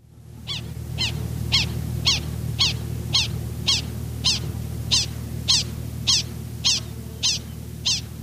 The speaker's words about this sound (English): But just in general, let's listen to another prairie dog selection here and try to deconstruct the sound a little bit here.